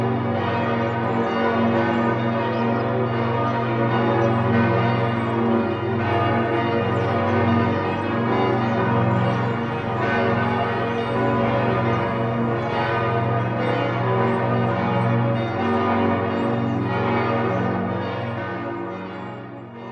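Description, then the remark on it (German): The nine-bell peal of Speyer Cathedral rings together, with bells from the 19th and 20th centuries led by a bell of nearly 5.5 tonnes tuned to G0. Deep overlapping tones blend into a dense, continuous wash that stays loud and steady throughout, with no voices. “Das heutige, neunstimmige Geläut stammt aus dem 19. und 20. Jahrhundert und wird angeführt von der knapp 5,5 Tonnen schweren G0-Glocke.”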